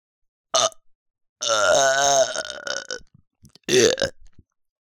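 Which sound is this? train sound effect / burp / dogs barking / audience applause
burp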